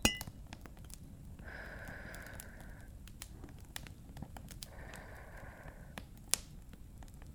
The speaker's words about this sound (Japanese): うん、やっぱり引き立てのコーヒーってすっごくいい香りがするね。それじゃあ、はい、コーヒーで乾杯。